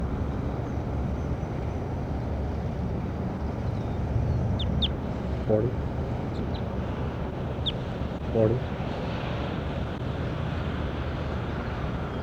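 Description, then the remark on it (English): Two brief, nasal duck quacks and a few short, high bird chirps rise over a steady, rumbling wash of background noise. No one speaks. “Start recording bird 40.”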